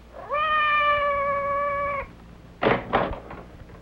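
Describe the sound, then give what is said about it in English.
A single long, drawn-out cat meow outside a door holds a steady pitch for nearly two seconds, then two quick dull thumps follow in the quiet. No one speaks. “Did you hear anything? Outside the door. It sounded like Madame's cat, Francois.”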